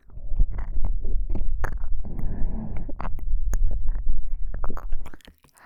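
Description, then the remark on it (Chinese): A loud, muffled heartbeat of a man thumps steadily in the low end, joined by soft crackles and rustling clicks; no one speaks, and the thumping stops abruptly just before the end. “大叔的心跳声，咚咚咚的，好响呢。”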